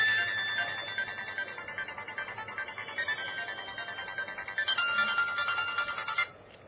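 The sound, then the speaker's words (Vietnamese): A mobile phone ringtone plays steadily for several seconds during a Buddhist teaching talk, a bright, repeating electronic melody with a pulsing rhythm, clear, stopping abruptly near the end with no one talking. “À, xin lỗi các vị là để tôi tắt cái điện thoại.”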